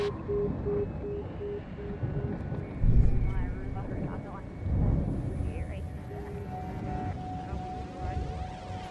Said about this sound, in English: Kind of scary to have this helicopter hovering around.